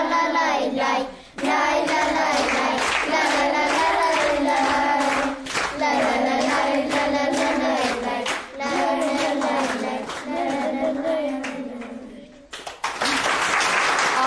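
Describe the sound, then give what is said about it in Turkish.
An audience applauds steadily for about twelve seconds, dense clapping over a sustained tonal hum of voices or music, then breaks briefly before a fresh burst of clapping at the end, as the audience sees off a group of children with applause. “Sevgili dinleyiciler, alkışlarla uğurluyoruz sevgili çocuklarımızı.”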